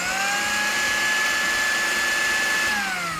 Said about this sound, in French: j'ai besoin d'un batteur électrique, je pourrais le faire au fouet